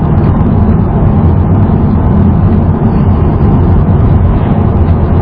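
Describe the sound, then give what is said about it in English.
Heavy 5 o'clock rush-hour traffic on Highway 264 roars past in a steady, loud, low rumble that never lets up, a dense wash of engine and tire noise, with no voices. “Down here again, you'll see this immense traffic on this road. 5 o'clock traffic on Highway 264.”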